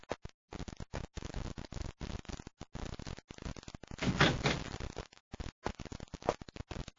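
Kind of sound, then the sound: household object, door opening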